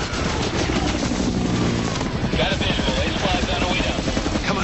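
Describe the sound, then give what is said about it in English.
A helicopter's steady rotor drone fills the scene, then the chopper's whirling minigun erupts in a dense, rapid stream of gunfire at a clearing full of guerrillas, rattling on continuously and loudly over the engine noise. “Now one chopper's whirling minigun cuts a path through a clearing full of guerrillas.”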